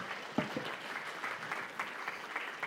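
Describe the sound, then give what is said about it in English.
An audience claps for the helpers steadily for a few seconds, a dense patter of many hands at moderate volume with no voices over it. “Should we give our helpers a round of applause for being so helpful?”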